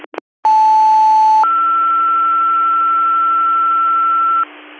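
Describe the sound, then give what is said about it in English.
Radio dispatch alert tones: two short clicks, then a steady mid-pitched tone for about a second that jumps to a higher, longer tone lasting three seconds, loud over band-limited radio hiss. The tones precede a call to the applicant squad at 33 Harnick Road requesting an ALS ambulance for a male patient with difficulty breathing. “Control to applicant squad, retoning your call 131 on scene 33 Harnick Road, requesting a ALS ambulance to the scene.”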